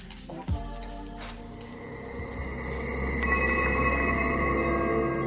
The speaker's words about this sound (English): Ooh, chimes and everything.